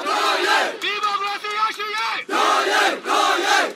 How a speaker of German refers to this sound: Zehntausende marschieren schon den zweiten Tag in Folge durch Yangon, die größte Stadt Myanmars. Lang lebe Mutter Su, rufen sie, oder nieder mit der Militärdiktatur.